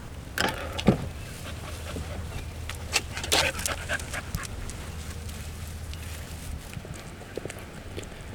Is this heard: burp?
no